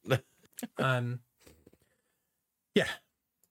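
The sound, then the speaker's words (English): A drawn-out voiced inhale and a few short breathy sounds, then after a brief quiet gap, one sharp sneeze bursts out near the end. “I'm going to sneeze, so I'm going to pause my.”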